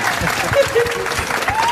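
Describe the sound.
A crowd claps steadily and densely, a loud wash of applause filling the space, with faint voices and a few whistles or cheers rising through it.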